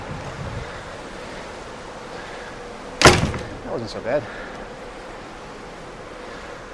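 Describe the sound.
Steady, rushing wind and ocean surf on the open deck of a ship, broken midway by a sharp, loud thud like a door banging shut, followed by a brief spoken remark.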